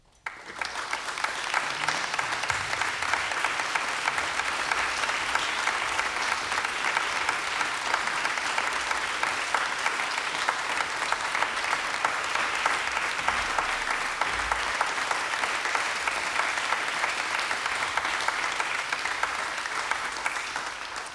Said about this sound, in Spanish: Invito a nuestros artistas al escenario para recibir el aplauso de todos ustedes.